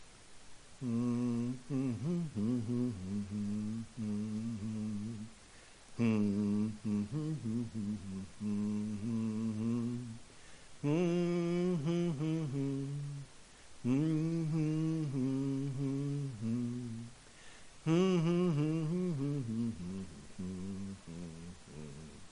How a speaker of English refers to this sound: Last week, I caught myself humming a tune. When I finally realized what the tune was that I was humming, it sort of made me smile. I was humming.